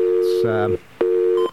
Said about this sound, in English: Okay, we get our dial tone? Good.